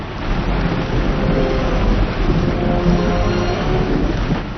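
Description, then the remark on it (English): A roaring waterfall of hot melted chocolate in a chocolate factory pours without pause, mixing the chocolate, a loud, dense rush of churning liquid with a deep rumbling low end, steady for the whole stretch and with no voices. “The waterfall is most important.”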